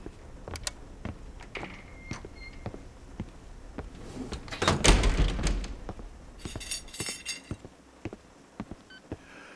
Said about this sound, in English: Let me just turn off the lights and make sure all the doors are locked.